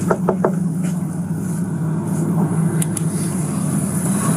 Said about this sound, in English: They catch up to the vehicle in a Target parking lot where officers walk up to the driver's side window and knock on it. Knock on the window.